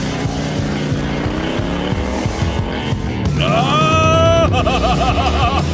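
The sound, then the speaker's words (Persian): A motorcycle engine idles with a low rumble, then revs sharply upward in pitch and roars off, its tone wavering as it speeds away, loud. “تا حالا موتور سوار شدی؟”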